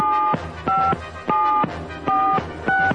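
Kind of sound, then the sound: signal or alarm, telephone number being dialed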